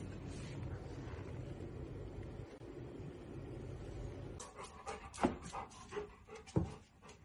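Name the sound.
dog panting and whimpering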